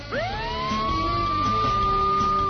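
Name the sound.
police car sirens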